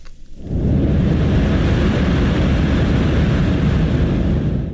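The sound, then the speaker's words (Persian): A passenger airplane roars overhead in Shiraz, Iran, unusually approaching the mountains around the airport, a loud, steady, low-heavy rumble that swells in after a brief quiet start and holds at full strength throughout. There is no talking. “هواپیمایی مسافربری در شیراز به شکل نامتعارفی به کوههای اطراف فرودگاه نزدیک می شود.”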